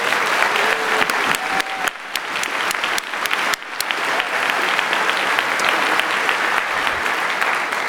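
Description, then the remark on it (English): A crowd claps steadily and loudly throughout, a dense, continuous wash of applause with sharper individual claps and a couple of faint whistles early on. “And so I'd like to get a round of applause for them.”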